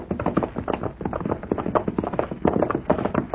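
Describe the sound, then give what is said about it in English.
Several horses' hooves clip-clop steadily on hard ground as they are ridden in the dark, a busy, overlapping rhythm of fairly loud hoofbeats with no voices. “Now, let's get these horses hobbled.”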